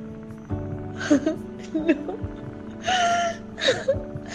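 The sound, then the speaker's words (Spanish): The Virgin Mary sobs loudly amid silence at the first glimmer of dawn, with gasping breaths and wailing cries in uneven bursts, her voice breaking into high, strained whimpers between sharp intakes of air. “El llanto de María tan fuerte y en medio del silencio de un primer barrunto de alba, ha hecho que todos vuelvan atrás para saber lo que pasa, con lo cual han oído las palabras de María Virgen y la emoción se extiende.”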